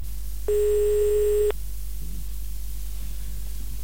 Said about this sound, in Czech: Za hodinu však už telefon nikdo nebral.